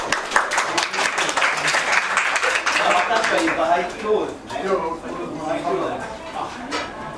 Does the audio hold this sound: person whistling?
no